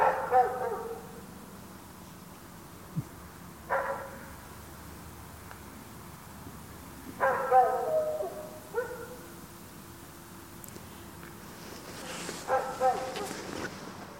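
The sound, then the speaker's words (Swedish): A dog barks in short single bursts, about five or six of them spaced several seconds apart, over a low, steady background hum. “En hund här”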